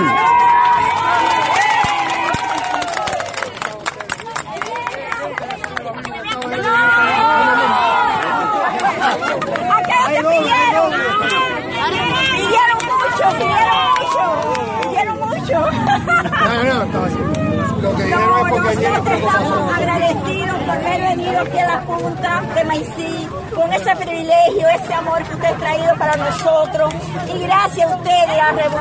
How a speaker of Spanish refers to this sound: Los pobladores, agradecidos, en amplio intercambio con el presidente cubano, lo vitorearon a su paso por esta zona en el extremo más oriental del país.